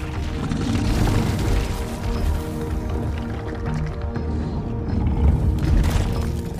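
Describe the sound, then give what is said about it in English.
A deep, heavy rumbling boom rolls on without pause, thick with low crunching and grinding, as a rock giant's huge foot smashes down on a forest floor where a shockwave tears a crack. It swells slightly louder toward the end. No voices. “A shockwave causes a crack to tear through the forest floor. A rock giant's huge foot smashes down, stopping the crack.”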